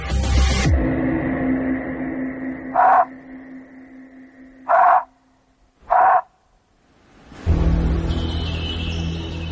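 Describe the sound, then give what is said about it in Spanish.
An artificial thylacine call played through a speaker to simulate a thylacine bark: three short, sharp yipping cries spaced over a few seconds, standing out clearly above a steady low hum and background noise. “Bill activó el chillido artificial de tilaceno”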